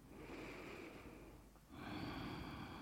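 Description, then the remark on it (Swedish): Slow ujjayi breaths exhaled through the nose with the mouth closed: a long, steady hiss of constricted breath through the throat, a brief pause, then another airy, rasping breath, fairly loud with no talking. “Så när du andas ut genom näsan blir det ett litet motstånd åt väsande ljud via halsen.”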